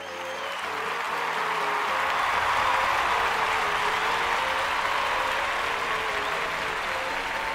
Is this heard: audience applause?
yes